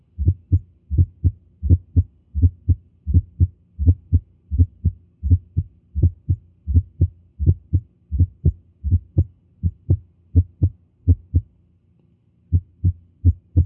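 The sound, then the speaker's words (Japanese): Heart sounds heard through a stethoscope placed over the heart, with a gallop rhythm: first, second and third heart sounds as steady thumping beats in clusters of three, repeating at a regular pace with a brief gap near the end. No voices. “これは心房性の雑音です。”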